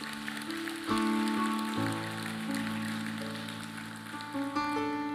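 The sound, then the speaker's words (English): A crowd claps steadily for people who raised their hands, in a dense, crackling wash of applause, with sustained keyboard chords shifting underneath for about five seconds. “Why don't we just applaud these who raised their hand?”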